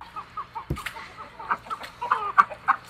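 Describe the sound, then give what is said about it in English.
A rooster named Red Pill clucks in a steady series of short calls, with a low thump near the start and some faint background rustling; no one speaks. “Red Pill Rooster's been sleeping with the Silkies at night.”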